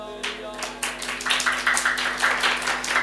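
Steady hand clapping, sharp claps repeating in a quick, regular rhythm for several seconds, as someone claps along while the speaker sings, over a sustained tonal voice or drone in the background.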